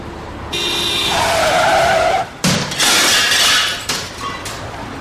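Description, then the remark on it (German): A loud tire screech from a skidding car, ending in a sudden crash with breaking glass and crunching metal as an old car on the wrong side of the road hits a new sports car, followed by a rattling, scraping aftermath. No one speaks. “Ein älterer Herr mit einem alten Auto, der auf die falsche Straßenseite geraten war, fuhr auf den neuen Sportwagen drauf.”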